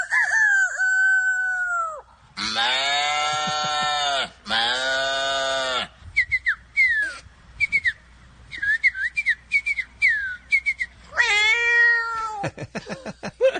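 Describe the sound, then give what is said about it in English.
A man's voice in a video imitates a run of animal calls: a descending whistle, two loud drawn-out crowing cries, a flurry of short chirps, then a falling meow and quick clicking sounds. He does about 40 different animals. “what the backstory is on this guy who does the animal sounds?”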